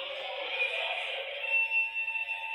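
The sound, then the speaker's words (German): A fire alarm rings steadily, a continuous high-pitched electronic tone with a buzzy, ringing texture that holds at a constant level for the whole few seconds, with no voices over it. “Und dann kam der Feuermelder.”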